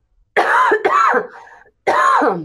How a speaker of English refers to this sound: Yeah, I mean, I'm having a coughing attack, so excuse me, everybody. Hold on.